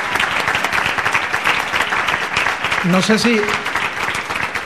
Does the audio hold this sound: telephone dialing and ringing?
no